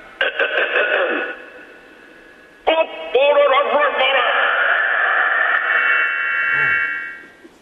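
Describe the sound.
A loud, drawn-out shouted greeting to radio DJ Greg James over a thin, phone-like line, with an echo effect added by the host that makes the voice ring and overlap itself before it fades away.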